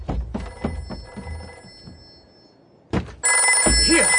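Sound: telephone bell ringing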